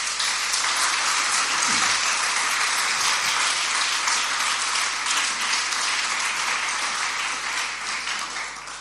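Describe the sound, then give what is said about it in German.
Sustained applause from a sizable audience, dense and steady clapping for several seconds before gradually thinning toward the end, given for the people who moved into this house and what they did there. “Und ich finde, das ist für die von uns, die unter uns, die auch jetzt Teil des Christustreffs sind, immer noch und die damals hier eingezogen sind, einen fetten Applaus wert für das, was sie hier gemacht haben in diesem Haus.”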